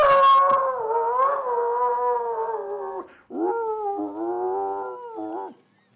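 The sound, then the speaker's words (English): A dog named Flash, out back, howls in long, wavering, tuneful notes that rise and fall like singing, with a short break before a second sustained howl; loud, no one talking. “Got a kind of a musical howl.”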